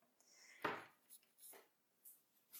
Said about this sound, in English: Oh, I need to wash my mug too.